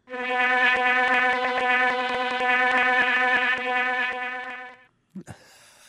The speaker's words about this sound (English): Do they use sound at all? I mean, do they buzz in a certain way? We've got a honeybee buzz. Let's get a honeybee buzz.